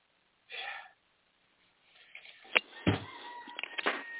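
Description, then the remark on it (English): A short raspy burst is followed by a longer, strained rooster crow with wavering, harmonic tones, fairly loud, with no one talking over it. “The chicken has spoken.”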